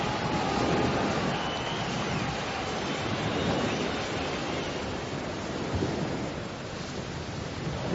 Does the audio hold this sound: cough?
no